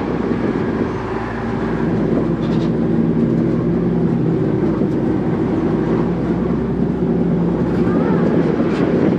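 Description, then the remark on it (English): A truck's engine clutch fan runs to bring the engine temperature down, with a loud, steady whirring roar over a low mechanical hum, continuous throughout without pause. “Yeah, the truck's just bringing its temperature down. It's got a clutch fan on it.”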